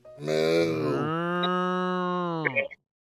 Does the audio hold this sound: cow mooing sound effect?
yes